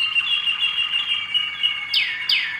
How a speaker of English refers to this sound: Some birds sing, 13, 14 different songs. And whether they'll sing them all in one day is depends on the bird.